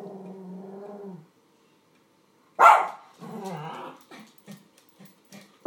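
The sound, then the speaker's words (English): A poodle gives a low, drawn-out growl, falls silent, then lets out a sharp loud bark followed by grumbling yips and a few short clipped barks. “My vicious poodle.”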